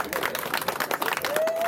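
A crowd at a monthly social at Cityside Lounge in Tampa claps for a class in a steady, dense round of applause, many hands at once filling the room, fairly loud throughout with a brief rising whistle near the end.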